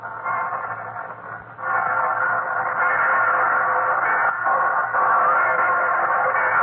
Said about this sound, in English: And now all the church bells in the city are beginning. I can hear 3 or 4 more churches, and I'll let you hear them.